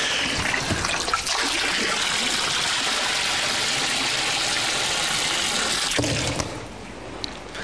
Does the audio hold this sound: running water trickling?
yes